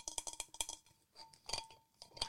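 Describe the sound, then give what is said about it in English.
Bright metallic clinks and knocks as custom-made merchandise water bottles tap against each other, a rapid cluster of strikes followed by a few scattered, ringing taps with no talking. “We have had water bottles made.”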